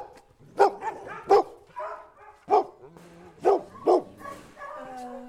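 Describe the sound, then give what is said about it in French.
Several old dogs at an animal shelter, kept out of the kennel boxes, bark in short, sharp bursts, about six loud yaps spread unevenly over a few seconds, with softer whining and yipping between them. “Ici, on a nos vieux chiens qu'on met pas en box parce qu'en box, du coup, bah, c'est un peu plus froid, c'est moins.”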